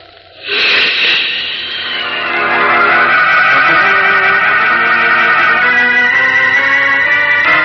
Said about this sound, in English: Leaping up from the storm-swept beach, Superman streaks out over the wind-lashed sea into the very teeth of the howling hurricane. Farther out to sea, the gale is stronger.